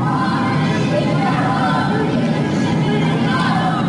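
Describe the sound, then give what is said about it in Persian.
In some neighbourhoods of Tehran on a Friday evening, on the eve of the anniversary of Mahsa Amini's death, a dense crowd of many voices shouts anti-government slogans together in a steady, loud roar, with overlapping calls blending into a continuous chant-like hubbub throughout. “در آستانه سالگرد جان باختن مهسا امینی شامگاه جمعه مردم در برخی محله‌های تهران شعارهای ضد حکومتی سر دادند.”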